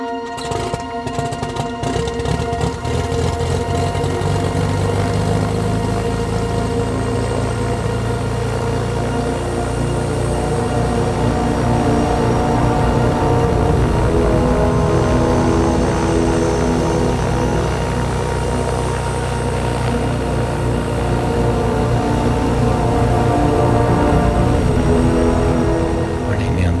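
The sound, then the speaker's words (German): Several race car engines start up on the morning of a race and settle into a steady, dense roar, with layered droning tones that rise and shift slightly as they idle and rev for nearly half a minute. “Am Morgen des Rennens, die Motoren werden gestartet.”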